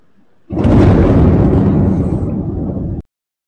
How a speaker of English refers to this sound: And that explosion that you hear at the end is actually during the interview.